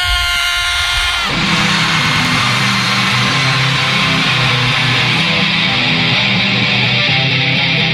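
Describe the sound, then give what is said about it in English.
A large crowd erupts into one loud, sustained scream together, a dense roar that rises after a brief musical tone and holds steady to the end. “Now one really big loud scream so you can hear it on 19th.”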